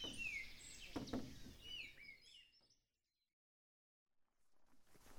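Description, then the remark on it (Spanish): A chorus of many birds singing and chirping together in the early morning by a lake after a rainy night, bright overlapping calls for about three seconds before the sound fades to near silence, with faint rustling at the end. “entonces abro la ventana sigilosamente, recorro con mis ojos la impresionante vista del lago desperezándose después de una noche lluviosa y me deleito con el canto de infinidad de aves.”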